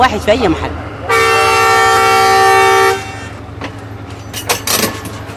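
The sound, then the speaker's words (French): A train horn sounds one long, loud, steady blast lasting about two seconds over a low rumble of a train running between Port Sudan and Atbara in Sudan, with faint background voices before and after. “Le train mettra près de 12 heures à parcourir les 500 km qui séparent Port-Soudan d'Atbara.”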